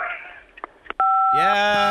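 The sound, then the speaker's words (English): A single phone keypad tone for the number 5, from someone pressing 5 on their phone, sounds clearly after some brief voice sounds. The steady two-note beep holds for about half a second before a louder, buzzier sound joins it. “Press 5 on your phone.”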